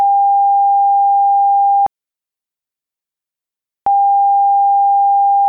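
A steady mid-pitched electronic tone sounds for about two seconds, cuts to silence for two seconds, then returns at the same loud, unchanging pitch, the intermittent emergency alarm of the Southhook LNG Terminal at Milford Haven.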